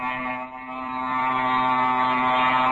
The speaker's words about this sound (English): we're only up 500 feet. I can't understand it. Why is the plane climbing so slow and struggling so hard?